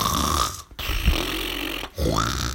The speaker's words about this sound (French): Quand Tommy et Annika entrèrent dans la cuisine de la villa drôle de repos, la maison résonnait de ronflements terribles.